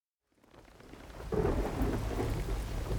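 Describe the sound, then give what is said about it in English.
Heavy rain pours down on a Dutch square-rigged flagship in the Pacific in April 1722, in a dense, steady roar that swells in after a quiet start, with deep rumbling underneath like a storm, loud, with no voices. “A Dutch sea captain called Jacob Roggeveen stands at the wheel of his square-rigged flagship, the rain lashing his face.”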